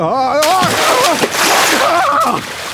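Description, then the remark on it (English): A loud splash as a man slips on a bar of soap and falls into a bathtub of water, followed by continuous sloshing and splattering as water spills over the sides, while a voice cries out with rising and falling wordless sounds over the commotion. “It slowed his fall so that he merely splashed down in the tub without injuring himself, although a lot of the water sloshed over the sides.”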